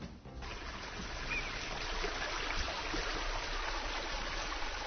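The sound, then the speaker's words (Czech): Steady, rushing flow of a stream, Jelića potok at Banja Vrućica near Teslić in Republika Srpska, a continuous hiss and gurgle that swells in during the first half second and then holds at an even level throughout, with no voices. “Potok koji je postojbina jedne familije na čijem stablu je više od 600 plodova.”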